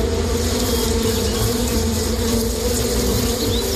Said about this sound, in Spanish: Claro, porque en realidad estamos hablando de la avispa velutina.